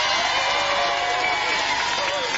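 A crowd claps steadily and loudly for a performer, a dense patter of many hands mixed with a murmur of cheering that holds at a constant level throughout.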